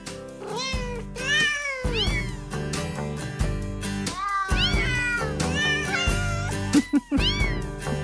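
Cat meows pitched and sequenced into a bouncy holiday melody over a steady musical backing, each meow sliding up and down in tune, loud and continuous throughout.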